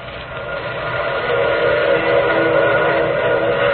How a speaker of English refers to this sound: Wasn't that a train whistle?